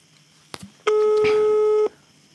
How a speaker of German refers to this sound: Das nächste Freizeichen. Es klingelt.